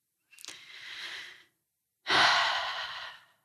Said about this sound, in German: Atmen.